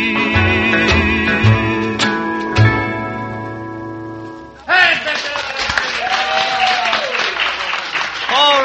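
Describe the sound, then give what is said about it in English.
A song's last sustained notes ring out and fade, then a crowd breaks into loud, dense applause that keeps going steadily, with some voices mixed into the clapping. “Alrighty, thank you so much for the kind applause.”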